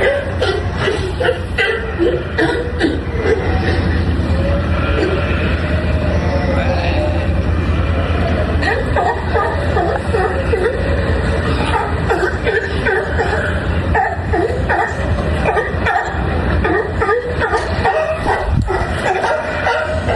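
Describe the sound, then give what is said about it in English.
A dense chorus of sea lions barking, honking and grunting without pause outside a hotel on San Cristobal, many overlapping calls in a loud, continuous racket with rough, guttural tones and occasional higher yelps. “And speaking of sea lions, this is what it sounded like outside of my hotel 24 hours a day.”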